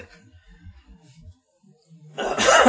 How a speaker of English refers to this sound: I'd really like my fucking, like, voice to come back in the morning and to stop coughing, like, in the night.